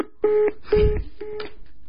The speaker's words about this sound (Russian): А это кто такой? Это который сейчас по телефонной трубке стучит.